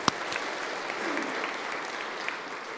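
A crowd claps steadily for a child called up to help the speaker, a dense wash of many hands applauding at an even level throughout, with no voices standing out.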